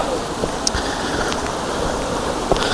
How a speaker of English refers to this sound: It's not a big waterfall, but it's little trickles that do look quite nice.